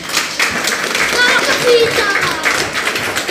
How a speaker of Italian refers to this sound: Applauso.